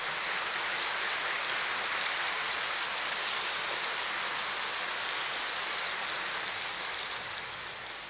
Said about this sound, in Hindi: इसलिए एक बार जोर से सभी तालियां बजाएंगे, जोर से तालियां बजाएंगे।